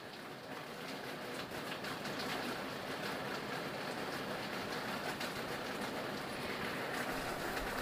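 A waste sorting conveyor belt runs steadily on a day without rain, carrying household waste such as a yoghurt cup and paper being sorted: a continuous loud mechanical rumble and clatter with a faint rattling hiss, unchanging throughout and with no voices.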